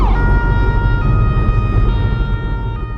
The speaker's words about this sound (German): Das ist aber ein Krankenwagen, das ist keine Polizei.